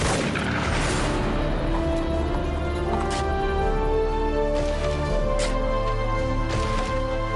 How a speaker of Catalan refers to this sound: Bé, com deia abans, pels diàlegs i pels trets es pot entendre que estem davant d'un western atípic, un western que es diu De Salvación.